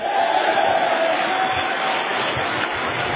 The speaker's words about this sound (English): Clap your hands and shout yes.